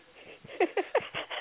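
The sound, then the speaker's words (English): A cat that got into a house and runs through it lets out three short, sharp cries in quick succession, fairly loud, followed by a few fainter repeated calls. No one speaks. “Why is there a cat in my house?”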